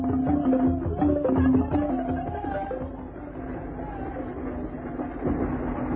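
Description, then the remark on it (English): A train speeds across the desert, rumbling steadily along the tracks with a continuous low droning hum and faint rhythmic clatter, moderately loud throughout. “One day, while one of these porters was out with Grogan, acting as gunbearer, they saw a train speeding across the desert.”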